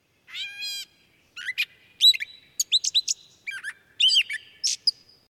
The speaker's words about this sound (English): In the warmer seasons, watch and listen for birds like yellow warblers and gray catbirds singing from the tops of the tip-ups or flitting around these roots.